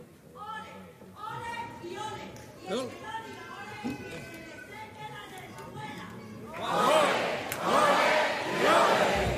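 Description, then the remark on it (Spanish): A lone theatre audience member spontaneously shouts a compliment to the comparsa and the city, drawn-out and emphatic over a murmuring crowd; the audience then erupts into loud cheering and applause for the final few seconds. “Hemos querido tampoco pisar esa espontánea del público que ha lanzado ese piropo a la comparsa y a la ciudad.”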